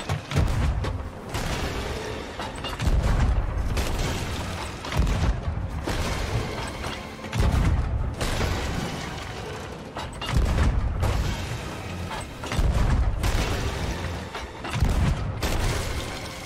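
Video game cannon shots, fired by the player at the cannon, boom out repeatedly: about seven heavy, rumbling blasts spaced a couple of seconds apart, loud, with a mechanical clatter between shots and no talking.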